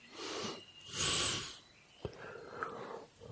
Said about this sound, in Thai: อย่างเช่นในเบื้องต้นของการ นั่งแต่ละครั้งหายใจออกยาวๆหน่อย